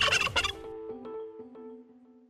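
A turkey gobbles once, a quick rattling burst of warbled notes that trails off into fading tones over about two seconds, with no talking.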